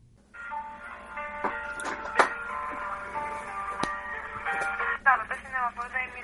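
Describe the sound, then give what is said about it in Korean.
A telephone rings on the line while a North Korean defector waits to connect a call to book movie tickets: a steady electronic tone through a narrow phone channel, broken by a few sharp clicks, with a voice briefly answering near the end. “예약을 하기 위해서 전화기를 든 탈북자”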